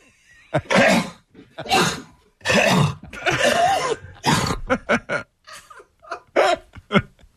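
human body sound, repeated coughing

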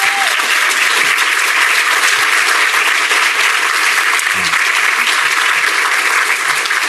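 crowd, audience applause

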